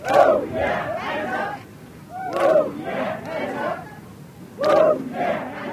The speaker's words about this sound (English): As the large cast warmed up their vocal cords close to the stage, on the grass, with the Matterhorn in the background, a huge crowd had gathered, ready to watch the premiere.